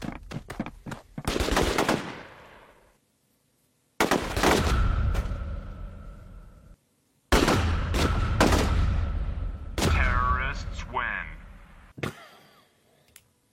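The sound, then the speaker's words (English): Bursts of rapid video game gunfire crackle loudly in three main volleys, with sharp clicks and reload sounds between, ending in a final single shot. “Terrorists win. Banged. Lock and load.”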